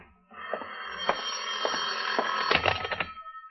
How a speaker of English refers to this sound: Your phone, John. Answer it.